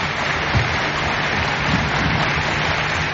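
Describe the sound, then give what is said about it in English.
A large crowd claps steadily in the Turkish parliament, the applause led by scores of women wearing Islamic headscarves in the gallery overlooking the Prime Minister, producing a dense, even wash that stays at a constant loud level throughout, with no voices standing out. “In the gallery overlooking the Prime Minister, scores of women wearing Islamic headscarves led the applause.”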